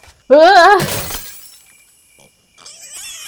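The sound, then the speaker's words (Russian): A sharp squeal cuts off into a loud crash as a camera falls and breaks, the shattering clatter ringing briefly before fading, followed by faint high-pitched tones. “Черт, камера разбилась.”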